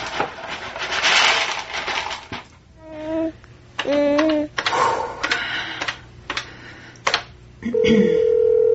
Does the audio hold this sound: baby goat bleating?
no